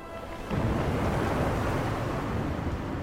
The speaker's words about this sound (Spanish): Pero cuando estaba dormido, se alzó una gran tempestad.